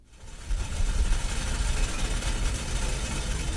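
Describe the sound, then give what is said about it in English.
Tea boiling on a stove at the Protestant International Church in Ankara, Turkey: a steady, rushing hiss with a low rumbling undertone, starting quietly and quickly rising to an even, continuous level with no voices. “There's tea boiling on the stove at the Protestant International Church in the Turkish capital, Ankara.”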